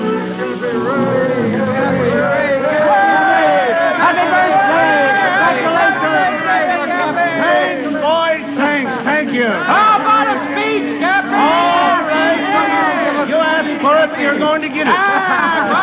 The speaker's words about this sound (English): On the steps of the Blue Star Line, Cappy Ricks, the president, faces a huge crowd of sailors and ship owners. In typical waterfront fashion, they're congratulating the old-timer on his 60th birthday.